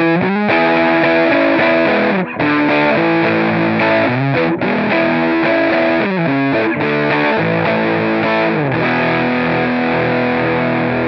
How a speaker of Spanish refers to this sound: También es habitual, cuando después de escuchar este fantástico, estos acordes de guitarra,